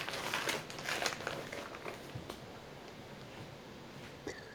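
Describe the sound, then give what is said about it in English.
An easy-to-open plastic bag crinkles and rustles as it's pulled open, a run of dry crackly bursts, busiest early on and then tapering into lighter scattered rustles, with no voices. “This is just like a fucking boom. Easy to open plastic bag.”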